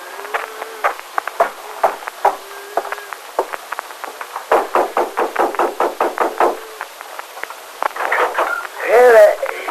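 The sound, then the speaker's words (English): Repeated knocking on the door of the Adams Ranch House, a steady run of sharp, moderately loud raps, with brief voices speaking before and after the knocks. “I'll have to knock on the door.”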